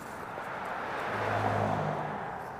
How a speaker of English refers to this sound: Cars slalom up the steep canyon, speeding past a decrepit old miner's shack.